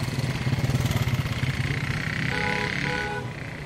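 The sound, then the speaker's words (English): An Okada motorbike taxi engine in Calabar putters steadily, its pulsing low rumble swelling briefly with a rising whine before easing off as it moves past. “Unlike Lagos, Calabar felt safe enough to use the Okada, the motorbike taxis that everyone gets around on.”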